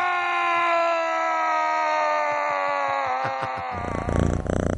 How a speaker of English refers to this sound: That's a chainsaw. Right. That's right.